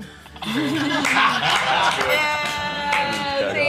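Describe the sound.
A lively burst of group reaction after a punchline, with clapping mixed into loud laughter and chuckling voices, filling the whole few seconds close up.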